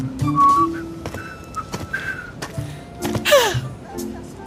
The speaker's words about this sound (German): Also pfeift scheinbar jemand. Da kommt halt jemand, der langsam. Ist bei euch sehr nahe so vorbeigelaufen.